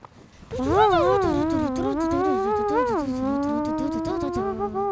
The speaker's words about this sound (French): L'ours le rejoint avec sa trompette. Quel souffle!